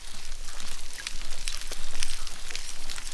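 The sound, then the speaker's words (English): Underwater ambience in parts of the Indian and Pacific Oceans, filled with dense, crackling snaps of prawns, with a few short, high squeaks and soft crunchy munching sounds from dugongs (sea cows) eating seagrass rising briefly above the steady fizz. No voices. “If you were to stick a microphone into the water in some parts of the Indian and Pacific Oceans, alongside the snapping sounds of prawns, you might hear some munching and squeaking noises.”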